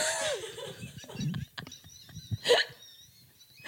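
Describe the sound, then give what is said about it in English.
A little dog with a cold, after 24 hours on a plane, lets out an oddly human-sounding sneeze, a sharp breathy burst among softer snuffles and faint high whistling tones, with no one talking. “That was the most human sneeze I've ever heard a dog make.”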